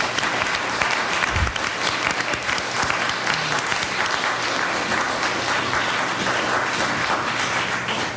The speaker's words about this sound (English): I guess if that's all, let me thank our three final speakers for the day and give them all a great big round of applause.